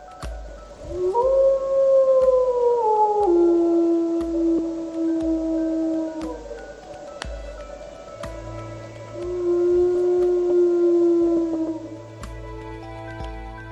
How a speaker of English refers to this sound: You are listening to Romeo, the wolf who came to Juno. Though he was killed by poachers, he still lives in the hearts of many in Juno, much loved by those who watched him play with dogs and wander on the outskirts of town.